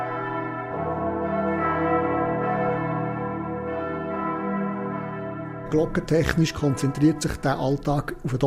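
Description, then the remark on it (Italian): Church bells of San Pietro and San Nicola, in the southern part of the town, ring out with rich, overlapping tones that hum and decay for several seconds; then a man starts speaking as the bells fall away. “Finora non è stato possibile armonizzare orari e suono delle rispettive campane.”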